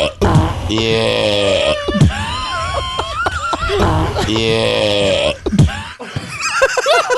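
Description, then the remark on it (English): A recorded burp played back loudly several times in a row, stretched and warbling with rising and falling pitch so it sounds almost like an animal's bray, with no talking over it. “Is it my fart or …'s burp?”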